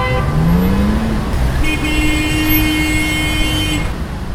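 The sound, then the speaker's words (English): Busy, jammed street traffic in Beirut, Lebanon rumbles steadily, then a car horn blares in one long sustained honk, with another horn briefly sounding earlier amid the engine noise. “Beirut, city of endless traffic jams.”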